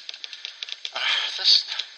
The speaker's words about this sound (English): And the typing sound is coming from the laptop speakers, which...